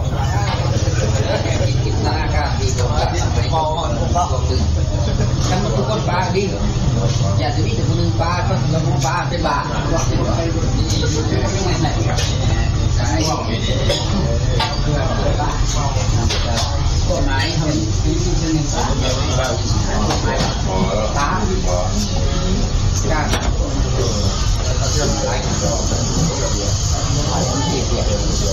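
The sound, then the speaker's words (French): Busy street food stall ambience in Pakse (Paxé), southern Laos: a steady, loud wash of overlapping chatter and kitchen clatter, with the low rumbling drone of scooters passing through underneath. “Mais oui, il est parti manger des bons petits plats dans une échoppe de rue à Paxé, quelque part dans le sud du Laos.”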